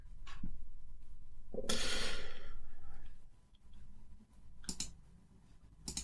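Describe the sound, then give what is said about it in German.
A few crisp computer mouse clicks, sparse and irregular, with a long breathy sigh or exhale in between. Fairly quiet, with no talking. “Klickst du dich gerade irgendwie durchs Internet oder?”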